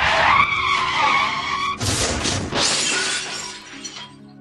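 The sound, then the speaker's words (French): A car's tires squeal in a long, high-pitched skid, then a loud crash as the car runs a person over, with glass shattering and debris clattering briefly before fading out. “Tout bascule cependant lorsqu'Astrid se fait renverser par une voiture.”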